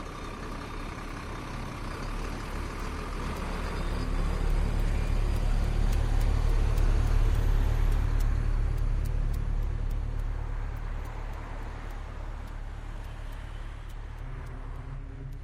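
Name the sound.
bus driving in traffic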